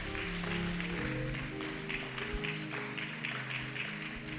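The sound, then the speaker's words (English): A church audience claps steadily together to the Lord, a dense wash of many hands, while sustained low musical tones continue underneath. “Clap your hands one more time to the Lord.”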